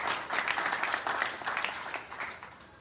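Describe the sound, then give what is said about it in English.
A crowd applauds with a dense, steady patter of many hands clapping, fairly loud throughout and tapering slightly toward the end, with no voices. “I'd like to applause for those people.”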